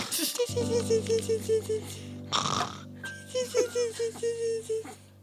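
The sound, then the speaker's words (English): A horse snorts and blows, with a run of loud, rhythmic, fluttering snorts, a sharp breathy blast in the middle, then another pulsing series of snorts. “Who let that horse in here?”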